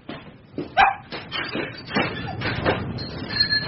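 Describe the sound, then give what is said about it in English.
A dog barks in a quick, excited series of yaps, mixed with high-pitched whimpering and whining as it welcomes its owner, with no talking. “There's a good dog, eh? Hey, at least you'll give me a welcome.”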